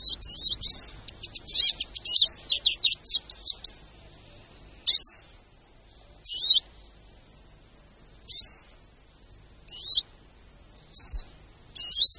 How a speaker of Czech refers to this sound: Křížek lesní.